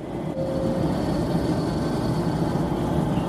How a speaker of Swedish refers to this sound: Om några minuter ankommer vi till Linköping. Klockan är 10.49 när tåget rullar in på Linköpings station.